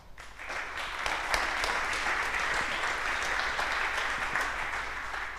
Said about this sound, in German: Applaus für die Bar.